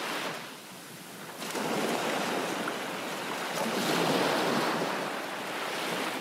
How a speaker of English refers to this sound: Now stretch your legs out so you can put your feet in the water. Feel the cool sea washing over your toes.